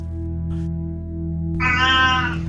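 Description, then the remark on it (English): A person mimics a cat's meow: one drawn-out, nasal, rising-then-falling cry, fairly loud, after about a second and a half of steady low hum. “Meow.”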